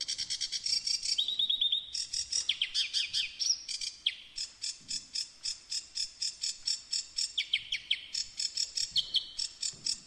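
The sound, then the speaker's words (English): A bird sings continuously at night in the dark on a dull, overcast evening, a fast, varied stream of bright high-pitched trills, whistles and chirps with no pauses, over a faint background hiss. “There was a bird singing. And it was the most extraordinary song.”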